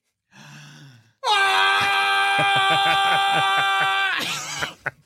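A man lets out a long, loud barbarian war scream, held at a steady raspy pitch for about three seconds after a brief low growl, ending in a breathy rasp.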